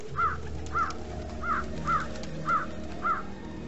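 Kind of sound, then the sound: bird, crows cawing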